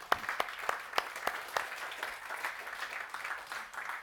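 An audience applauds steadily, a dense wash of many hands clapping with a few sharper, louder claps standing out in the first half, fairly quiet overall with no talking.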